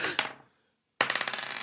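A handful of dice clatters and tumbles across a hard surface, trailing off into silence, then a second, sharper burst of rapid rattling rolls on loud.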